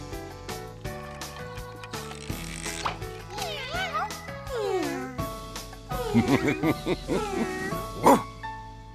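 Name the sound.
dog barking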